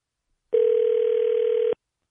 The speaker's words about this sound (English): No, now it's just ringing.